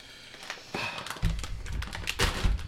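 Irregular crinkling and tapping with bursts of plastic rustle and a few dull thumps, like someone fumbling and tugging at a stubborn food package they are struggling to open. No one speaks.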